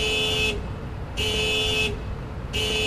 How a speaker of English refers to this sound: Outside, a car alarm fills the air with no owner in sight.